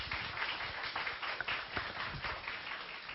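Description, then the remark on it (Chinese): A church audience applauds to welcome a guest gospel singer, with dense, crackling clapping that holds steady for about three seconds at a moderate level, with no one speaking over it. “我们这时候就要邀请我们的庄慧如老师，我们热烈拍手欢迎他。”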